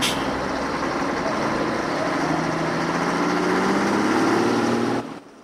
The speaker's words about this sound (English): A great cloud of smoke billows out from beneath the truck as Max starts the engine.